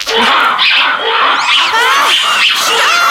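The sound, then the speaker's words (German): A recording of large monkeys roaring, played at full volume through a small loudspeaker box: loud, continuous, overlapping harsh, wailing calls that swoop up and down in pitch, layered densely with no pauses and no human voices. “Ihr habt Affengebrüll aufgenommen? Das waren aber keine kleinen Äffchen, sondern ziemlich große.”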